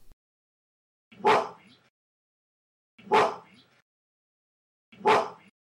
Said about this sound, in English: This repeats three times, so you can just hear what a gorilla... Because gorillas do bark. They will bark when they're angry. Correct. And this is an actual gorilla barking, and it repeats three times.